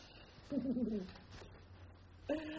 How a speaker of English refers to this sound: I was given a crate of pigeons.